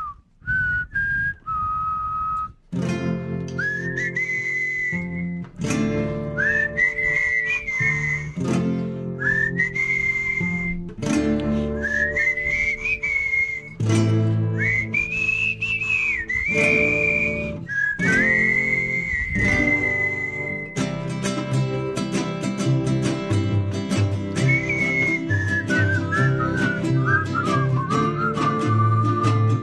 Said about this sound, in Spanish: Chiflando en su oficina.